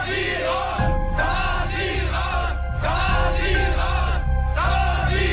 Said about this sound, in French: Le 15 janvier 1990, le siège à la Normannenstrasse est envahi par la foule au cri « La Stasi dehors ».